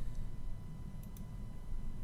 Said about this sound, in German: Mit einem linken Mausklick bestätige ich meine Eingabe.